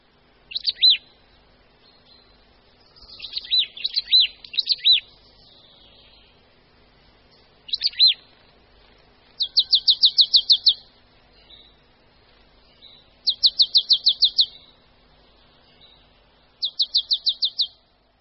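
Marsh tit song: bright, high chirps and quick descending notes, then three rapid rattling bursts of repeated "chip" notes, each about a second long, with pauses between, clear over a quiet background.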